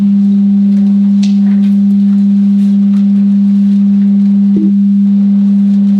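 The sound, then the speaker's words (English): A steady, loud synthesized sine tone holds one low pitch for the whole stretch, with faint overtones and a tiny blip near the end, and no voices. “So when I invoke that, this plays our sine wave.”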